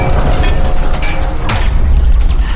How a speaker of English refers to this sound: Lock it down. Seal the door.